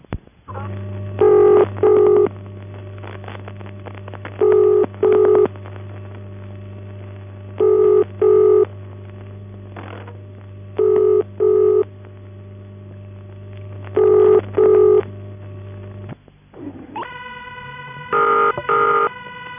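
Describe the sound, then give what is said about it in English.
A telephone exchange ringing tone, at Waterloo 928 exchange, feeding back into the machine, sounds in paired double bursts about every three seconds over a steady low electrical hum, then shifts to a higher, harsher tone near the end. “In the first case, Waterloo 928 exchange, the ringing is feeding back into the machine, and in the second, which is Cambridge Special Faults, the buzzer tone operated by ringing this number appears to be feeding back down the line.”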